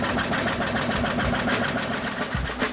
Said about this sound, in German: Weiter geht's mit noch einer lauten Maschine. Ohren zu, ja? Da sind gleich mehrere Sägen drin, die zwei dicke Bretter in viele dünne zersägen. Da kommen sie schon.